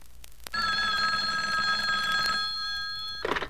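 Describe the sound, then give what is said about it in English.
A hotline telephone bell rings loudly and steadily for about two seconds, a bright metallic trill that cuts off abruptly, followed by a brief clatter as the receiver is picked up. “Now, hand me the hotline phone.”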